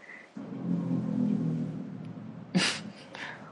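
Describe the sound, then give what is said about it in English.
A low, buzzing vroom held steady for about two seconds, like a voice imitating a race car engine passing by, followed by a brief sharp click and faint rustling. “That was a race car going by.”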